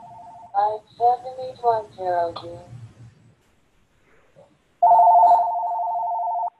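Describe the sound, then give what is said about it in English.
A telephone tone sounds briefly at the start, then someone talks for a couple of seconds. After a pause, a loud, steady phone ring tone sounds again, held unbroken to the end, picked up through someone's open microphone. “I think somebody's mic is on and the phone is ringing, just FYI.”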